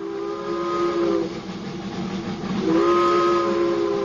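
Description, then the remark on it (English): Two chugging steam locomotives, school car number one and school car number two: a whistle sounds two long, loud blasts separated by a short pause, over a steady rumble and hiss of steam. No one speaks. “It began with two chugging steam locomotives, school car number one and school car number two.”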